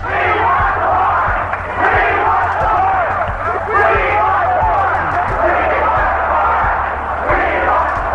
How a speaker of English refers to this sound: An estimated 3,000 rally attendees began marching from UC Berkeley towards the fenced-off property chanting, "We want the park."